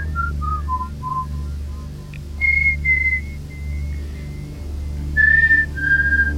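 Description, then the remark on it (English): Someone whistles a simple melody of clear, stepping notes, some short and some held, fairly loud, over a steady low engine-like hum. “I like to whistle.”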